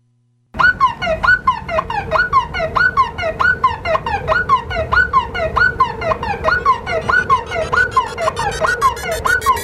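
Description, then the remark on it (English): A car alarm blares a rapid, repeating electronic whoop, cycling steadily about twice per second, loud, with no voices over it. “Car Alarm Friday.”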